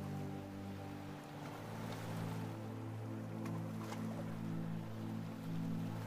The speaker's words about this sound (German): Nimm die Geräusche der Wellen wahr. Das Rauschen des Meeres begleitet dich in dieser Meditation und hilft dir beim Entspannen.